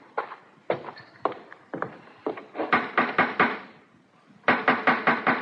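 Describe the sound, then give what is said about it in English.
Loud, sharp knocking on Governor Dinwiddie's wooden door in Williamsburg at 11 o'clock at night, in clear weather, in several insistent bursts of three to five raps separated by short pauses, with no voices. “Aye, you don't have to break it in.”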